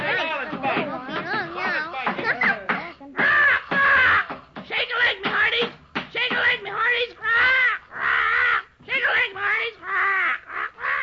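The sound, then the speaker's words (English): A bird squawks loudly in a rapid string of harsh, raspy, almost voice-like calls, bursts running nearly nonstop with only brief gaps between them. “Quiet, you blooming dodo.”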